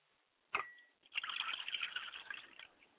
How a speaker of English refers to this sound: I pour libation for my father's spirit, Obatala, for Robert Jenkins.